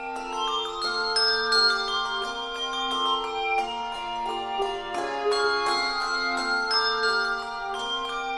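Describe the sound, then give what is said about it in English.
An ensemble, a handbell choir mixing Schulmerich and Malmark bells, rings a flowing melody, bright bell tones struck in quick succession and overlapping as they sustain, clear with no voices. “This is the …, one of the few choirs that mixes Schulmerich and Malmark bells.”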